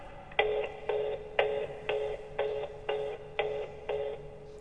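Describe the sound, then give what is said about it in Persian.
A telephone rings with an electronic tone, pulsing in short, evenly spaced bursts roughly twice a second, steady and moderately loud with no voices. “اقلا جواب تلفن منو بده.”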